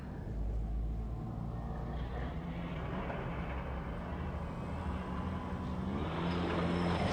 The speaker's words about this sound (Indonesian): Sambil menunggu jalanan tidak macet.